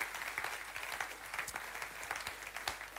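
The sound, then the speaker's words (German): A church audience in Nuremberg applauds one another steadily, a dense wash of many hands clapping at once with a few sharper individual claps standing out, sustained and fairly loud throughout. “Hey, wie wäre es, wenn wir uns gegenseitig nochmal einen riesen Applaus geben?”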